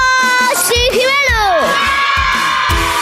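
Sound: children shouting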